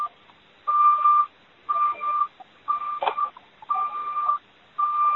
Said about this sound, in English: Could whoever has the beeping mute their phone?